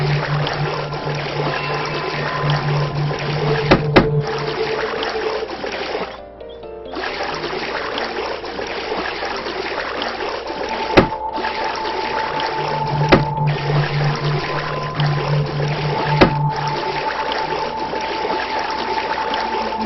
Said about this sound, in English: There's nothing I like more than floating across the sea on a nice day like today.